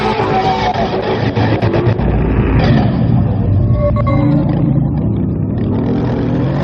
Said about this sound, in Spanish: Las motos, que no falten.